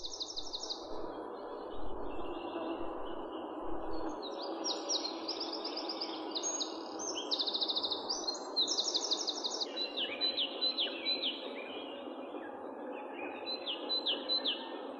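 A great tit sings in repeated bright, clear two-note phrases over a steady background hum of outdoor ambience; no voices are present.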